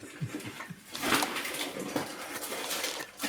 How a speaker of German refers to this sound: Da muss ja auch nochmal dem Publikum, den Zuhörern erklären, die Weine sind hier unheimlich toll eingepackt. Es ist auch gar nicht so einfach, das mehr oder weniger hier auszupacken